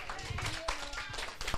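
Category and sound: crowd, applause from children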